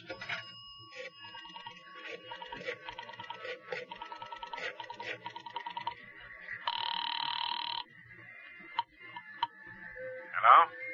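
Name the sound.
telephone ringing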